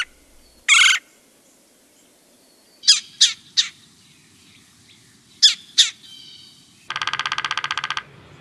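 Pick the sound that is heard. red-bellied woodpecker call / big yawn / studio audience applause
red-bellied woodpecker call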